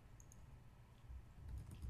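Faint computer keyboard typing and clicking as someone searches on Google, a few soft scattered taps over a low background rumble, with no one talking.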